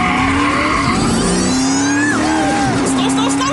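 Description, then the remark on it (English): A car engine roars loudly with rising revs and squealing tires as the vehicle accelerates hard during a driver's test, continuous throughout. “Please start the car, sir. Let's do this.”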